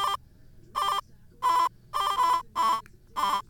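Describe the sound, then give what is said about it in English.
A bright electronic music sample that sounds like a telephone ring, added into a beat pattern, played as about seven short buzzy bursts in a rhythmic, slightly uneven pattern, loud with a faint low rumble between hits. “I just added in the second sample. That thing that sounds like a phone ring, kind of.”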